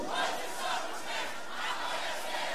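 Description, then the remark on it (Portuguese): A large concert crowd at a show shouts "eu" together after being asked to raise their hands, a sustained, roaring response, a dense wall of many voices that swells and dips slightly without a single voice standing out. “Levanta a mão pro alto e grita eu.”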